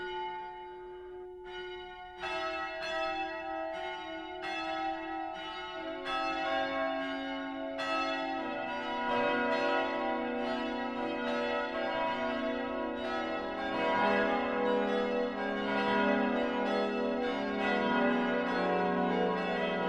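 church bells ringing

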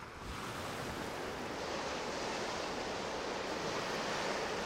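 ocean waves

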